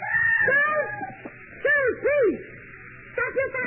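A person screams in a series of high, wavering wails: a long cry at first, then shorter rising-and-falling bursts after pauses. The cries are loud, with no talking, and come from a downstairs room.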